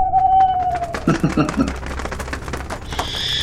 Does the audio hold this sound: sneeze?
no